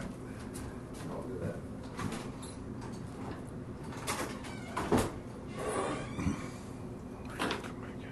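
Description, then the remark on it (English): A door is opened and later shut as a person walks outside and comes back in, with a handful of scattered clunks and scrapes spread over several seconds against a steady low hum, not loud. “Can you walk outside the door and leave it there and come back in?”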